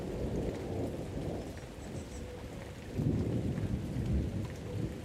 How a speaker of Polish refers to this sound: Uwielbiam burzę. Słuchaj, mamy tutaj naturalną ambiencję. Ambient puszczy, rzek, burza i tak dalej, właśnie żaby, ptaki.